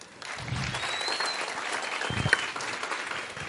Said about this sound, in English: And lastly, another warm round of applause.